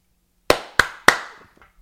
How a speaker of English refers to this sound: What is that knocking? The cat. Oh, it is? He's just eating out of his cat bowl.